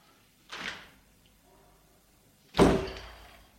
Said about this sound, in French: La porte s'est ouverte violemment.